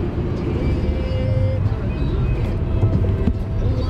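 A car drives steadily from New York heading south to Appalachia, its engine and road noise forming a continuous low rumble that holds an even, fairly loud level for the whole four seconds, with light hiss on top.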